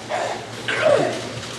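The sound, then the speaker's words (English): Month-old weaned piglets, among 1,000 in a big barn room and some sick with flu, cough in a couple of harsh, bark-like bursts over a steady background hum, the second cough a little louder and longer than the first. “You can hear some of the pigs coughing.”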